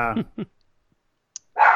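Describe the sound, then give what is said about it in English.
A small dog named Yoda yaps a few times, two quick harmonic barks followed by a pause, a faint click, and then a louder, rougher bark at the end. “Oh yeah, he's a tough little dog.”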